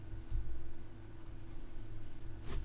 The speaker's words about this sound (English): The capital city is Chisinau. Write that down, please. It's spelled like this. Like that. Can you write that down, please?